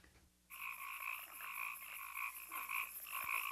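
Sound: frog croaking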